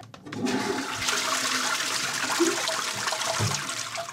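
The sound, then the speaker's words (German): A toilet in a bathroom flushes, a loud, continuous rush of swirling water that surges after a brief start and keeps pouring steadily for several seconds, with no voices. “Wo gibt's hier Wasser? Hinter mir im Klo.”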